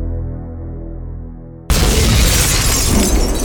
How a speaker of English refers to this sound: As the explosion rocked the foundations of the fortress, causing little showers of dust to sift down from above, Baron Beausoleil gaped up at the ceiling, eyes wide with astonishment.